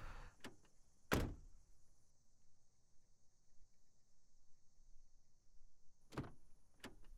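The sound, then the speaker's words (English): A car door shuts with a solid thunk near the start, followed by quiet interior hum and another sharp thud a few seconds later, with faint clicks and a steady high whine in between. “Keep your arms in and close the door.”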